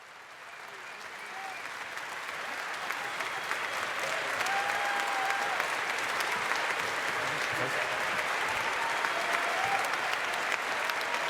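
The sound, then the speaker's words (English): Sustained audience applause at the Congress, a dense wash of clapping hands that swells over the first few seconds and then holds steady and loud, with faint voices and whistles scattered through it. “A huge applause also for yourselves.”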